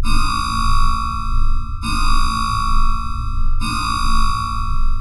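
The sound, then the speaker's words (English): A submarine dive klaxon blares in a harsh, buzzy tone, sounding three times in a steady rhythm of roughly two-second blasts over a constant low rumble, with no voices. “He keyed the all-ship channel as the dive klaxon started to sound.”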